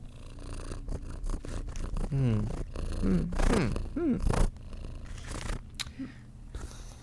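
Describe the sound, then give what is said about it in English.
A female cat named Lily gives a few drawn-out, wavering meows in the middle, surrounded by steady purring and soft rustling, with no one talking. “It seems she doesn't wear diapers. She's a cat.”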